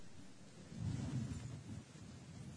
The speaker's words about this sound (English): You see, I've been the guy quoting about the rain. That's why we got all this rain.